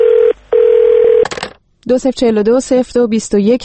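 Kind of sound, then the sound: signal or alarm, answering machine telephone tones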